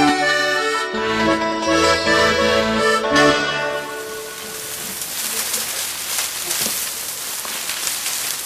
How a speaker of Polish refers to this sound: Czy rozpoznajecie Państwo ten dźwięk? To pszenica i żyto, które skoszone czeka na to, aż zamieni się w przepiękny wieniec dożynkowy.